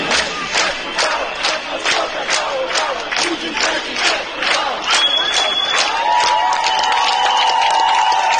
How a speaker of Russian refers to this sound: Народ пришел к зданию администрации и стал скандировать: Дегтярев, выходи!